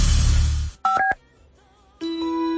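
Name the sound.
telephone number being dialed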